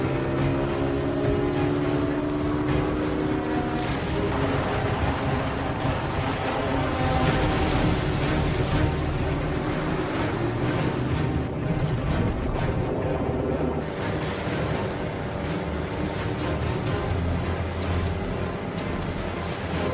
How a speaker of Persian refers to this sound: خانم یه قایق ماهیگیری داره از جلوی کشتی رد میشه.